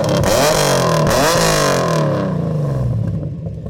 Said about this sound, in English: I need to hear this car purr. Like it's just—I know I sound like I'm over-exaggerating, but it's just the most amazing-looking car I've ever seen.